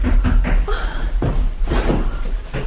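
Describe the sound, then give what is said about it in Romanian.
A door is opened with a series of sharp wooden clunks and rattles of the latch and frame over a low rumble. No one speaks. “Și acum deschideți ușa.”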